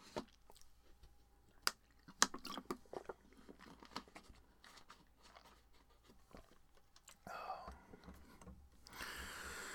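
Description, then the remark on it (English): Quiet sipping and swallowing of water, with small wet mouth clicks and gulps spaced irregularly, ending in a soft breathy rustle; no one speaks. “Let me take a sip of water quickly.”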